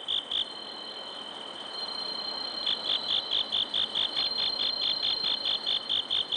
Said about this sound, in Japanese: 仙台市の虫としても知られるスズムシ、自然ではなかなか見つけることが難しくなりましたが、そんなスズムシを飼育している岩切市民センターにお邪魔して鳴き声を録音させていただきました。宮城野のスズムシとして日本の音風景百選にも選ばれている音を少しお楽しみください。